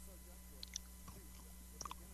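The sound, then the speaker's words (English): A man chews cookies into a microphone, with a few sharp, moist clicks and crunches scattered over a quiet, humming background. No one speaks. “Let's just listen to him chew.”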